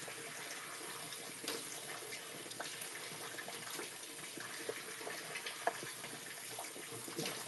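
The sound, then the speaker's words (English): Steady rushing of hot shower water spraying down continuously, a broad hiss with small splashes and drips scattered through it, fairly quiet, with no one speaking. “I have you once more hanging out in my little shower”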